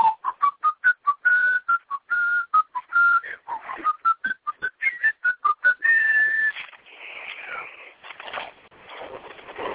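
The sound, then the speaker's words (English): A mail carrier whistles the Hall of the Mountain King as he pedals off down the road, a brisk, staccato classical tune of short clear notes in a quick repeating rhythm, fairly loud, trailing off into softer breathy sounds as it fades away. “And then, whistling the Hall of the Mountain King, he pedals off down the road.”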